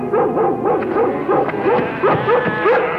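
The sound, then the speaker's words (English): A dog, Lassie, a hound, barks and yips at sheep in quick, repeated bursts, a steady run of sharp, high-pitched, excited calls filling the whole stretch with no voices heard. “Get out of here, you crazy hound.”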